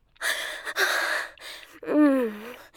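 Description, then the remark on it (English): A few quick, breathy gasps follow one another in close succession, ending in a longer voiced, sighing moan. Fairly loud, with no talking. “Those quick little gasps.”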